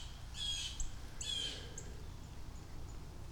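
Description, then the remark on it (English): Two harsh, raspy bird squawks in quick succession outdoors, followed by quieter background with faint chirps and a low steady rumble. “Angry birds everywhere.”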